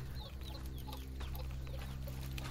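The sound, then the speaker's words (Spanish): Chickens cluck softly outdoors, short scattered calls over a steady low hum of background noise, with no one speaking. “Nomás las aves y una cabra afuera.”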